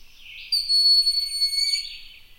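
A single thin, high-pitched whistled call from a broad-winged hawk, a long drawn-out note lasting over a second, heard clearly and alone without any talking.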